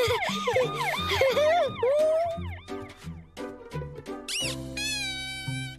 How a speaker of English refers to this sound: It's got a siren!